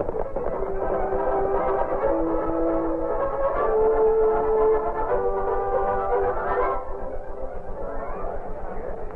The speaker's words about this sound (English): It was early morning when the supply train from Omaha reached Carson's Bend.